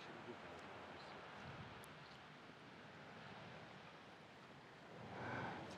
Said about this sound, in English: Listen to the waves and breathe with them. Breathe with the waves.